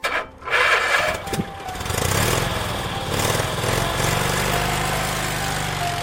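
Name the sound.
scooter engine running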